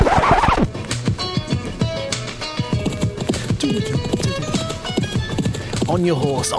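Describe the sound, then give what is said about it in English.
Horse hooves clip-clop in a quick, steady rhythm, loud, with a dense layer of other sound and voice-like tones rising briefly near the end. “On your horse.”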